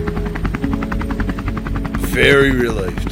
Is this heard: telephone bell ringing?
no